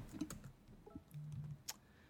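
A few soft, irregular keyboard key presses as enter is hit to start a timer, with a cluster of clicks early and one sharper tap near the end, over a quiet background with a brief low hum in between; no one speaks.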